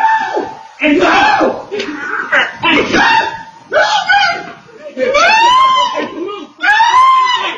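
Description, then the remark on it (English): A man shrieks and yells in loud, repeated bursts during a scuffle, his voice rising into strained high-pitched cries amid a frantic commotion with no clear words. “You can hear the guy shrieking.”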